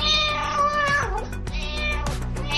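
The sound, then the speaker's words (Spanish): A cat meows loudly, a drawn-out, whining call followed by a couple more plaintive meows in quick succession, with no one speaking. “Y por si usted tiene uno de estos meninos, Día Internacional del Gato.”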